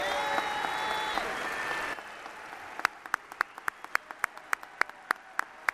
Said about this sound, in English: So I said, it seems to me that it's incumbent upon us to give John Nichols a round of applause for the tremendous job that he's been doing for the past many years, but certainly this past year.